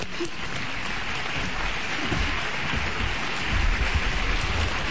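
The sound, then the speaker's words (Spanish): Sustained audience applause, a dense, steady crackle of many clapping hands that fills the whole stretch and swells slightly toward the end, with no voices standing out. “Aplaudan fuerte.”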